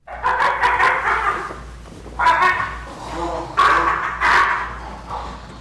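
California sea lions affected by an oil spill, at the oiled wildlife care center of SeaWorld San Diego, bark in rough, honking bursts that come in clusters, several calls overlapping and pausing between rounds, over a steady low hum.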